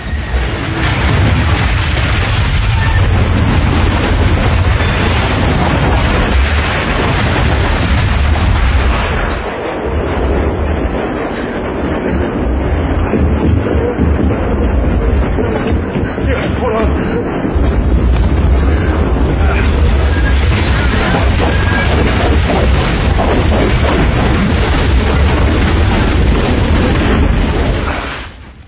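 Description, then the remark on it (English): A loud, sustained movie explosion made with miniatures, with deep rumbling booms and crackling, roaring debris that fills nearly the whole stretch, briefly easing before surging again. “This whole explosion, this is all miniature.”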